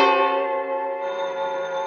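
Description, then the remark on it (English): A telephone bell on a private-number line rings loud, a sustained metallic tone that holds steady for the whole moment with no voices over it. “When I got the bell, I thought fast.”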